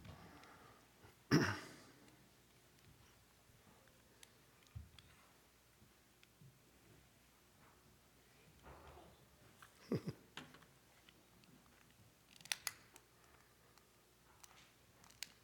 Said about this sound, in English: you want to see if you can make one of these lighters work? We're going to light this one.